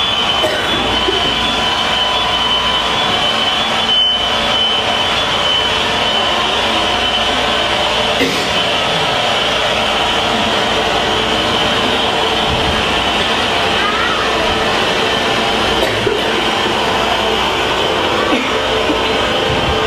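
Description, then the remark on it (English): A dense, unbroken mechanical drone of many generators running at once along a street during a routine power outage, loud and steady, with layered engine hums and a high whining tone holding throughout. “I mean, it's really loud, and you know, the whole street lights up and buzzes with the sound of the generators once the electricity goes out.”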